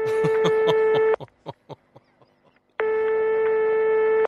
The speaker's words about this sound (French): Il décroche le téléphone de son bureau. Il compose nerveusement un numéro.